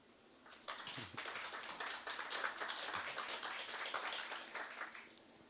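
Audience applause starts abruptly and holds steady for several seconds, a dense wash of many hands clapping at once with no voices over it.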